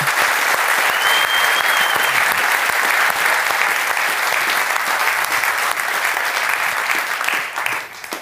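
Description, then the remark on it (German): A live show audience claps steadily for Hansi Küpper, the voice of the show's jingle, in a dense, sustained burst of applause that stays loud for about eight seconds before starting to fade at the end. “Bitte einen fetten Applaus für Hansi Küpper.”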